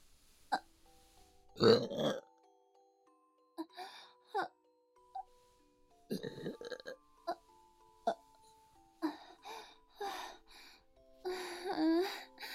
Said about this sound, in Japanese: いつものしたくなりましたわ。あなたの我慢汁ゲップ出させていただきますわね。